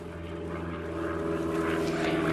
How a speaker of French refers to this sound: Alors on entend des avions parce qu'il y a un petit aéroport pas très loin.